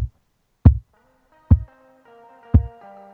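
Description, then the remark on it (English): Loud heartbeat thumps played into a microphone, four deep booming beats at a slow, slightly uneven pace, with a faint sustained musical tone rising underneath after the first few beats. “That's the Islanders' heartbeat the last six games.”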